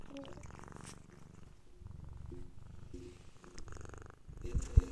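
A cat purrs steadily and close to the microphone, a continuous low rumbling vibration that pulses in a slow rhythm, with a brief louder bump near the end.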